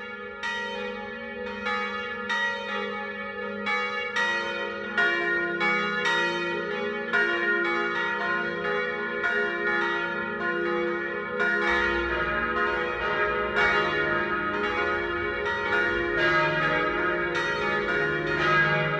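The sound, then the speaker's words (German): Several church bells ring together in a full, continuous 12 o'clock midday peal in Traunreut, a town with two churches in the Chiemgau, Upper Bavaria, Germany; their overlapping strikes form a dense, resonant wash with lingering hum beneath; steady and fairly loud, no voices. “Das Mittagsläuten kommt heute aus Traunreuth in Oberbayern.”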